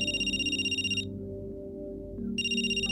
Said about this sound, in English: 7 minutes later, my phone rings.